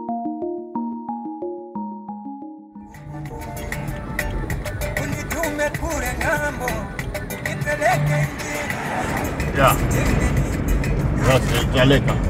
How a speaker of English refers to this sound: I'm in a car driving north out of Malawi's capital city of Lilongwe.